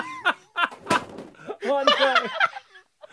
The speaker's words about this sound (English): I can't even take on this stand behind me. Oh, look. Laughed so hard he pushed his chair back into the listener stand and almost knocked over the banner.